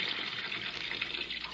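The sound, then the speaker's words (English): Water pours steadily into a bathtub being filled for an experiment, a continuous gushing rush that holds an even level throughout, with no voices over it. “I think that's the about amount of water Hart drowned in.”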